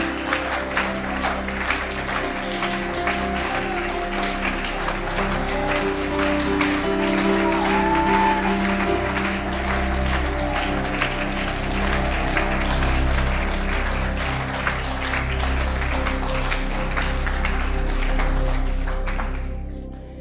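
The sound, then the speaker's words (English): At a church worship service, an audience gives a round of applause to the Lamb on the throne: a dense, steady wash of clapping that holds for about twenty seconds over a low sustained hum, with a few scattered shouts, then fades out at the very end. “Let's give the Lamb on the throne a round of applause.”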